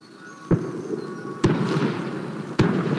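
Three loud cannon shots boom out at roughly one-second intervals at 9 o'clock in the morning in San Gallo, announcing the start of the children's festival held every 3 years, each a sharp blast followed by a rumbling echo that lingers over a busy outdoor background.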